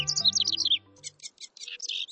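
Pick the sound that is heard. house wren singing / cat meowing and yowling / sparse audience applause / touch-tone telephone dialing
house wren singing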